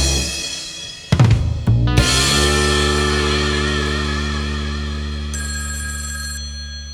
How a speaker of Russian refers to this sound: Зазвонит твой телефон на проводе